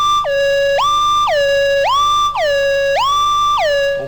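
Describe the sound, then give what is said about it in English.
A loud, buzzy synthesizer tone swings back and forth between a higher and a lower note roughly every half second, sliding smoothly between them like a two-tone siren. No one speaks. “Well, obviously you've got to glide between the notes, because it doesn't really sound like that. So we'll put some glide in.”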